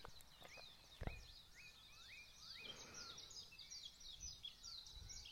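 Several birds sing and chirp continuously in overlapping, high-pitched phrases at daybreak on a gray, misty morning in a rainforest on an island in the Pacific Ocean, about 3,200 feet up, with a soft ambient hush and a brief thump early on. No one speaks.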